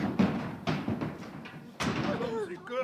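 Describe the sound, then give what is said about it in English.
A wooden jury box full of animals is knocked over in a courthouse with a series of heavy thumps and clattering knocks, roughly five impacts in quick, uneven succession, as the animals fall out, followed by brief high, wavering voice-like cries. “Alice jumped up and knocked over the jury box.”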